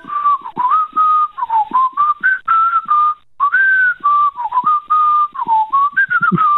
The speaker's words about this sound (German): hast du das gehört? Ich höre da irgendein Pfeifen in der Leitung.